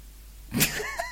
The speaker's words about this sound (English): Did you hear a dog barking in the background? That was our Calamity, our dog shouting